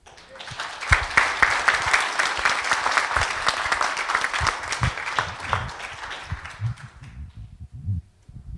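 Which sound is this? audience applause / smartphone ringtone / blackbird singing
audience applause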